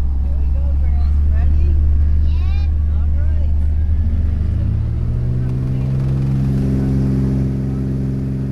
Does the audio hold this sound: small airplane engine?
yes